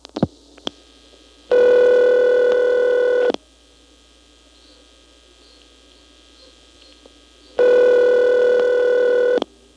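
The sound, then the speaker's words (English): A few sharp clicks of telephone dialing a number in the Granite 9 exchange at the start, then two long, steady buzzing ring tones separated by several seconds of near silence, like a line ringing on the other end. “When I dial the 4 and the 7, those digits absorb, but the 9 actually goes somewhere.”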